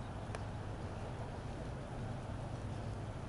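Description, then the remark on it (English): Steady rain falls on a baseball field during a game, in wet, soggy conditions, in a continuous, even hiss with a low rumbling undertone, fairly soft and diffuse, with no voices and no distinct individual drops standing out. “It's remarkably hard to get a proper grip on the baseball with the rain falling, and now Marauders players are starting to get underneath the overhang of the dugout.”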